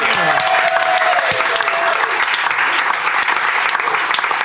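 A panel show audience claps loudly and steadily for a panellist, a dense wash of applause that holds at full strength for several seconds with no talking over it.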